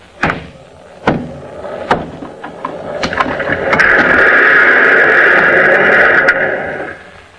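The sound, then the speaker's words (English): A stone wall being smashed, a sound effect from the Superman program built from a miniature cobblestone wall: several sharp, heavy baseball-bat blows land a second or so apart, then the stones are pushed over in a long, loud, gritty rush of crumbling and collapsing stone that gradually fades. “One of the typical effects used on the Superman program is the sound of Superman breaking down a stone wall with his two bare hands.”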